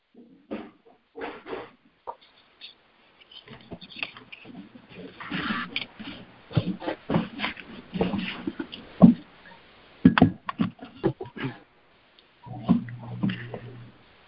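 Pigs grunt repeatedly, a run of low, rough, irregular snorts and grumbles that overlap and swell louder in the middle before tapering off.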